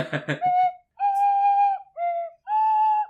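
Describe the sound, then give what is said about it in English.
After a brief burst of speech, someone whistles three sustained notes with slight pitch dips and bends, fairly loud, mimicking a slide whistle. “It has to be like, I have to get like a bass slide whistle or something.”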